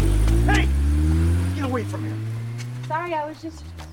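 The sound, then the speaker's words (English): A car engine roars in the street, its pitch sliding lower as it nears and slows, while a few short, sharp voices cry out over it as a woman grabs a boy out of its path. “The boy's basketball rolls in the street and she grabs the boy before a car hits him.”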